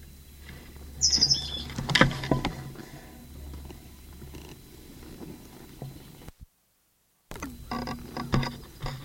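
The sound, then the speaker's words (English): A bird calls from a conspicuous perch in the upper part of a live oak, apparently in an announcement context, giving short, high chirping calls over a low, steady rumble, with a sharp bright note early on and scattered faint calls later, interrupted by a brief silent gap. “bird terminated, but still calling from conspicuous perch and upper part of live oak.”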